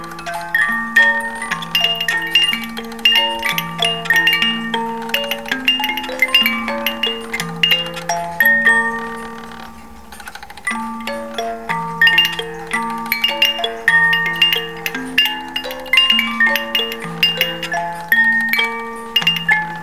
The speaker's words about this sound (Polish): To jest w tej kolekcji Poloniki w zegarmistrzostwie właśnie. Mamy dwa, które grają polskie melodie. Jeden jest z kujawiaczkiem. Zaraz zobaczymy, który.